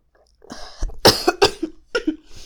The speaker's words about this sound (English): No, coughing's good. It gets the smoke in there.